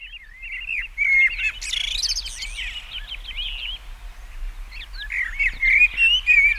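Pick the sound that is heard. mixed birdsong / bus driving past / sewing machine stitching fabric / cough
mixed birdsong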